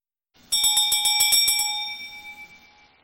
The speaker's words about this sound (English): As we hear the bells of Advent and Christmas, we ask ourselves, is there, can there be, where is this peace on earth?